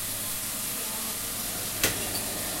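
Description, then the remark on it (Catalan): The gas burner of a roasting machine is lit at about 62 degrees: a steady, rushing burner hiss fills the background, then a single sharp click-like burst of ignition flares briefly before the roar settles back to its even drone. No one speaks. “Ara ja li poso el foc aquí.”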